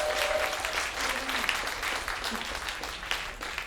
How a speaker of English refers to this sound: Give a round of applause for them.